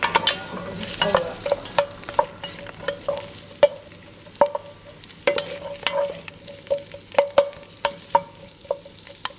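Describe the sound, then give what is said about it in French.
Onions are browned in a pan with a soft, steady sizzle, broken by irregular sharp clicks and scrapes of stirring. A low, constant hum runs underneath, and no one speaks. “Donc je fais revenir les oignons.”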